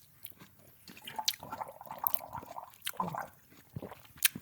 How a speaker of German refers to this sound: Ich schmatze hier einfach mal rum.